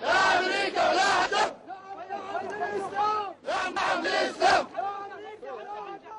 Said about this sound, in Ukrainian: Ні окупантам, ні Америці, ні Саддаму, так ісламу вигукували демонстранти.